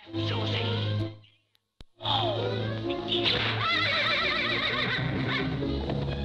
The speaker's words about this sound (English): Three rows of horses march forward, slowly pulling the long trailer under Gulliver's body.